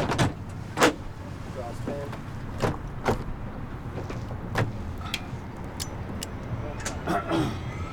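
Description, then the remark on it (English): A helicopter door is slid and latched shut on jumpers of a skydiving team before takeoff, with a series of sharp metallic clunks and clicks over a steady low engine rumble. “All right, guys, I'm gonna close you up.”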